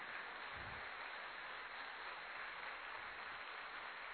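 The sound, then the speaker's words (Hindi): A crowd claps loudly and steadily for the whole stretch, a dense, unbroken wash of many hands with no voices standing out. “और जोरदार ताली, कितना मक्खन खिलाया दीदी जी ने, तो ताली में तो दम होना चाहिए ना।”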